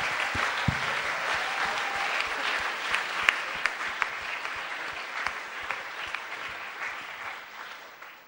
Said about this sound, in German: Das ist ein Grund zu klatschen. Ja, es ist ein Grund zu klatschen, wenn Leute sich für Jesus entscheiden.